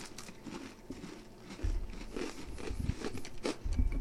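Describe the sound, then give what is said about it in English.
Crunching from bites of a lemon-scented cream-filled cookie, a series of crisp, irregular crackles and low thumps of chewing right at the mic, with no talking. “Sorry, crunching on mic.”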